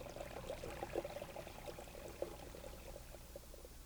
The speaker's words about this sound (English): Its rays reflected on the thousands of little streams that came falling down through the rocks.